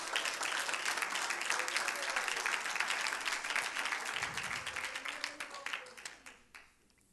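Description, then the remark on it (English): A church audience bursts into sustained, dense hand clapping in praise of the Lord, steady for several seconds before thinning into scattered claps and fading out; a few voices murmur faintly beneath. “If you believe that, give the Lord a hand clap of praise.”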